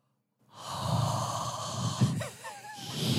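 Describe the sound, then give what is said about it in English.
A voice imitates the heavy, rhythmic Lamaze-style breathing of women in a steam room, loud, with forceful huffing exhales and a few wheezy, whistling breaths, lasting about three seconds with no words. “Yeah, a lot of heavy breathing like that.”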